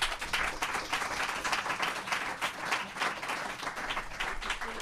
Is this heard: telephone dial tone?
no